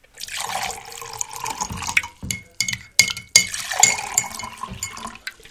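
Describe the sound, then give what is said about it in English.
Coffee pours steadily into a cup with a broad splashing hiss, broken by a few sharp clinks and gurgles as the stream stops and starts before trailing off. “You ready for some coffee, honey? Absolutely. I'll pour.”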